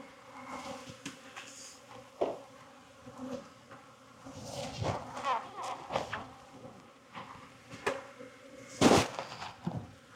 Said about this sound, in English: You think the temperament of that last hive, you know, it's just kind of how they were all buzzing. Could have been because of the requeening and the virgins and, I don't know, not happy in life.